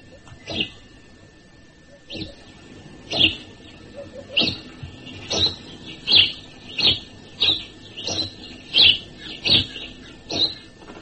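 A male house sparrow gives its species recognition call: about a dozen sharp, bright chirps, spaced unevenly at first and then in a quicker, steady series. The calls are moderately loud, with no other sounds.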